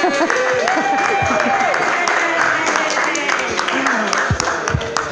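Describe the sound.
Steady, dense clapping from a crowd fills the whole five seconds, loud and unbroken, with cheering and chattering voices mixed through it.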